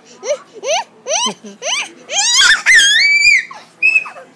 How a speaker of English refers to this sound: Don't scream. Hey, stop screaming. You're gonna scare me.